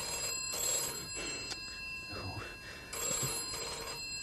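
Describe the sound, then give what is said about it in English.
An old-fashioned telephone bell rings in two loud, jangling bursts separated by a pause, with faint murmuring voices in the gap between rings. “Well, it'll go on ringing until you answer it.”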